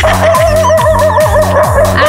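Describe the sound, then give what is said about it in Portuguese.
A loud, continuous chorus of hungry dogs barking while waiting for a delivery of dog food, with repeated barks roughly every half second over steady whining and yelping, crowded together with no one talking. “Os cachorros já tá latindo de fome.”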